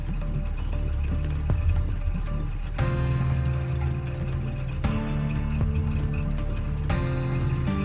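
A car engine idles steadily, a low continuous rumble with a faint rhythmic mechanical rattle running through it. It stays fairly loud and even throughout, with no voices.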